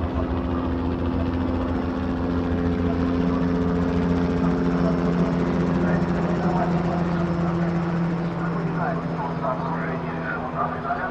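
A steady, droning aircraft engine with a throbbing helicopter rotor from planes and helicopters searching for missing people, loud and continuous for the whole stretch, holding a constant low hum without fading in or out.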